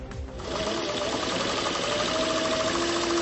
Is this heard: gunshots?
no